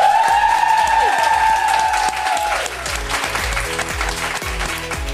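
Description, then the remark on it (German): Loud, sustained applause and cheering from a live crowd, dense clapping throughout with a few whoops and a high sustained cheer in the first two seconds, no speech. “Und deswegen sollen wir nochmal einen großen Jubeltrommel machen, ja, damit man es wirklich so richtig hört.”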